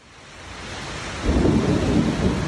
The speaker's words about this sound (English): That's what we get after 93 degrees. Después de 93 grados hoy. Another 5 o'clock summer storm is ripping through the east side of Orlando.